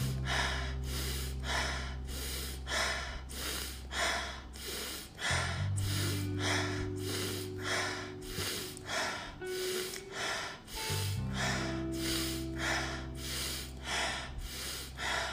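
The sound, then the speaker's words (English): Rapid, rhythmic breathing exercise repeats steadily, about one breath per second, sharp nasal inhales expanding the belly alternating with forceful exhales through the mouth contracting the belly, over a sustained low droning tone that shifts pitch midway. “So maintain, imagine you're filling a balloon, but also at the same time increasing the speed of your breathing. Inhale through the nose, exhale through the mouth.”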